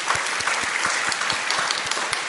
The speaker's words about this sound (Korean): 오늘 3부 예배는 이번 동해 선교에 동참하는 우리 타이베이 청년들이 지금 같이 예배를 드리고 있는데 한번 손 좀 흔들어 보시겠어요? 타이베이. 아, 예. 감사합니다. 다 알아들어요. 예. 박수로 한번. 예.